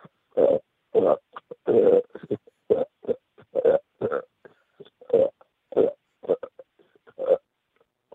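A string of loud, close burps, about fifteen short bursts in a stop-start rhythm, tracing out the melody of a rock guitar riff, with no talking in between.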